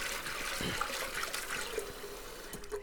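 Water swishes and sloshes steadily as pre-soaked chana dal is rinsed and swirled by hand, with soft splashes and occasional clinks against a bowl, moderately loud, no voices.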